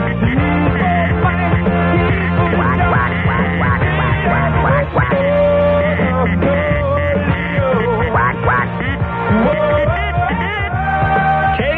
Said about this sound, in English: Quack, quack.